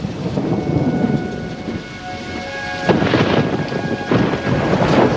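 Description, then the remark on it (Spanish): Steady rain hisses over everything while deep thunder rumbles and swells, with a sharp crack-like burst near the middle. Faint tonal hums sit in the background; no one speaks. “Comienza a llover.”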